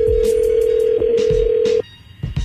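A steady electronic ringback tone hums for nearly two seconds as an outgoing phone call rings, then cuts off abruptly, with scattered background clatter and noise around it, as the Ebro in the Morning radio show calls a guest.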